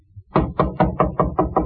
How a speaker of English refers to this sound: Knock again.